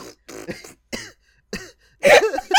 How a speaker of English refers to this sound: I'm sorry. I was coughing.